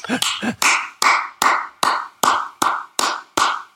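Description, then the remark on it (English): Slow, steady clapping for a guard of honour for the visiting Down team at Celtic Park: after a few quicker opening claps, about eight loud, evenly spaced hand claps ring out at a measured, deliberate pace with no voices. “So you can imagine the yard of honour now.”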